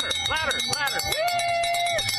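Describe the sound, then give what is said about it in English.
A bell clangs at a race finish line in a fast, steady rhythm of bright metallic strikes as runners sprint in, while voices shout and cheer over it, with one drawn-out, rising and falling call standing out. “There's something about make that bell ring.”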